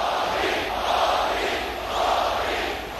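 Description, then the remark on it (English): A large crowd of Indian American fans chants "Modi, Modi" together at Madison Square Garden in New York City, in loud, dense waves. The roar swells and eases twice in a steady repeated rhythm, with no single voice standing out. “Shouting Modi, Modi, his fans from the Indian American community packed the venue where John Lennon played his last concert and where Muhammad Ali first fought Joe Frazier.”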